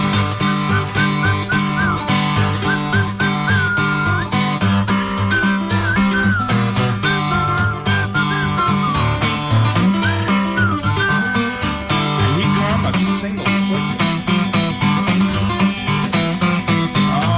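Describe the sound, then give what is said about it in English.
A person whistles a wavering melody over a loud, steady band backing with a driving beat, the whistled tune riding above the instruments throughout, with no talking. “Must whistle for you.”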